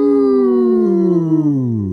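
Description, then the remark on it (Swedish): People howl like wolves in a single loud, sustained cry that slowly slides downward in pitch, a drawn-out voice imitation of a wolf's howl lasting about two seconds, howled to mark the end of the term. “Det ylar vi på.”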